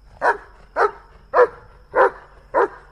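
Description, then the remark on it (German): A husky dog gives five short, throaty barks in a steady rhythm, about two per second, each one loud and rough with nothing else sounding in between. “Ist das ein Hund, der nah am Wolf ist? Ja. Nah am Wolf. Eisblaue Augen, manchmal. Ein Husky.”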